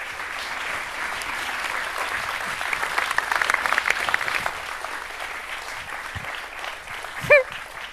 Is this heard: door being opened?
no